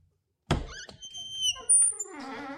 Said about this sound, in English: We might have to put some WD-40 on that fridge door or something. It's a bit fucking...